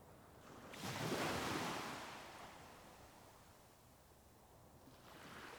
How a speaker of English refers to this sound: The gentle waves rock you back and forth, lulling you into a peaceful state of mind.